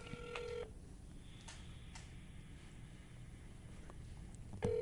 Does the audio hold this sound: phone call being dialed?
yes